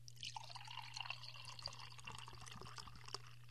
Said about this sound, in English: Let's have some. I've got open the can already. Let's pour it and smell it, taste it.